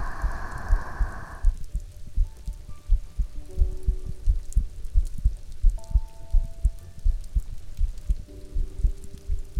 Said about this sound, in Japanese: 雨の音、落ち着きます。